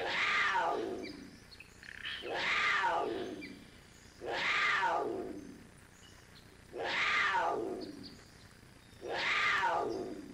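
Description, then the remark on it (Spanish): A black panther growls five times in a steady rhythm, each drawn-out rising and falling snarl spaced about two seconds apart, loud with no talking. “es una pantera negra que se encargaba de defender al niño.”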